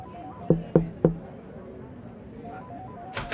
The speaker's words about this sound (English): What the hell are you banging on the glass for, scumbag?